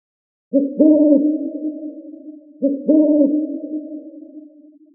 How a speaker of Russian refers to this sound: Уверен, вы отгадали. Это сова.